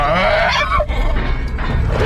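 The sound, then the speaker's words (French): A rabid dog lets out a loud, hoarse, drawn-out howl, its strained harmonic voice wavering in pitch and breaking briefly before carrying on, with no one speaking. It is the typical howl of rabid dogs, the 'rabid voice'. “C'est ce que j'appelle la voix rabique, le hurlement typique des chiens enragés.”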